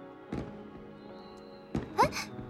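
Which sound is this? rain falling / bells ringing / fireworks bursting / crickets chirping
fireworks bursting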